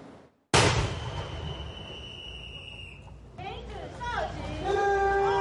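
21-gun salute cannon fire

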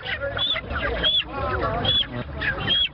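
chickens clucking

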